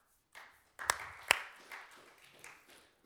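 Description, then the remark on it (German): Scattered clapping from a small group after a speaker finishes, with two sharp, prominent claps standing out near the start, followed by a softer, uneven patter of hand claps fading out. “Und also ich werde immer klatschen, wenn jemand hier nach vorne kommt. Ihr seid eingeladen, da mitzumachen.”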